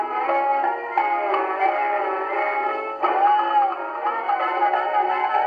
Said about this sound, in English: They're making jazz a cacophony. Listen to what they think jazz is like. This is their parody of it. Every instrument making noise at once.